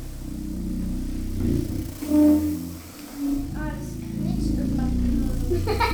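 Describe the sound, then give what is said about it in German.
Rubbery balloon squeaks come in a few short, tonal bursts over a steady low rumble, with voices murmuring faintly in the background. “Oh, das quietscht immer.”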